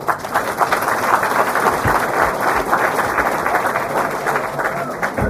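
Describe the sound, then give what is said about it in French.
A crowd applauds the mayor steadily, a dense wash of many hands clapping at constant loudness for several seconds, with a faint murmur of voices underneath. “d'abord pour applaudir monsieur le maire.”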